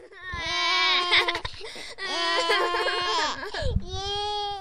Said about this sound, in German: Sie wollten gerne Lego kaufen, aber sie hatten gar kein Geld dabei. Deshalb waren die ganz traurig und fingen an zu weinen.